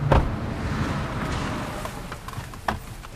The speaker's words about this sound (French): il monte à l'arrière de la voiture et nous partons pour une bonne demi-heure de trajet dans le trafic d'Aman